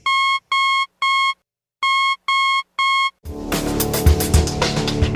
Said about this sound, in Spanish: ¿Qué fue lo que escuchó Guillermo Marconi en esa primera transmisión inalámbrica transatlántica? Un modesto punto, punto, punto, que en clave morse es igual a la letra S.